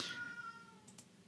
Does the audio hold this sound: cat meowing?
yes